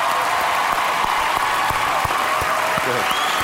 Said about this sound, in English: Give this boy a round of applause.